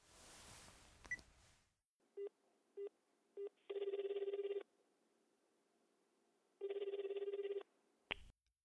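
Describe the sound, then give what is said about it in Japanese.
A few quick button beeps as a phone number is dialed, then two long buzzing rings on the line with a pause between, ending in a sharp click as the call to the caller's mother connects. “早く電話してください。”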